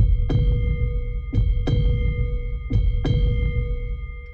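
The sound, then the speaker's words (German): A heartbeat sound effect: deep thumps in lub-dub pairs repeating at a slow, steady pace over a low rumbling bed with a faint sustained hum, and no voices. “Krumbach Mineralwasser präsentiert den Herzschlag des Allgäus.”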